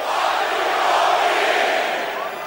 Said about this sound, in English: I must have a pretty strong ego to be able to stand 60,000 people telling me to fuck off.